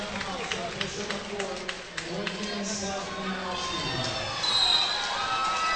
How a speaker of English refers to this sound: Mixture of cheers and some boos.